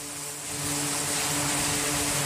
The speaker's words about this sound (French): Au large des côtes yéménites, les aéronefs font leurs allers-retours sur les porte-avions. Des vols d'exercice.